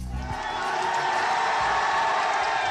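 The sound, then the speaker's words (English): A large crowd of thousands of supporters in Burma cheers loudly in a sustained, dense roar of voices, with whoops and shouts blending into a continuous wall of celebratory noise, as the pro-democracy leader Aung San Suu Kyi stands outside her home waving to them. “That is the cheer of the crowd as Burmese dissident and pro-democracy leader”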